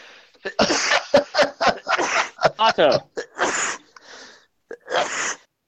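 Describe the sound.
A sneezing fit of several sharp, explosive sneezes in quick succession, close and loud, with brief gaps and a bit of talking mixed in.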